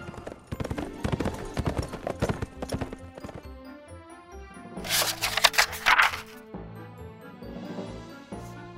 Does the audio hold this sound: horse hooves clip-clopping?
yes